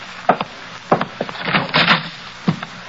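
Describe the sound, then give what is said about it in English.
A wooden door is handled: a few sharp knocks and clunks, a scraping slide in the middle, then a final thud as it shuts. No one speaks. “Go right through that door.”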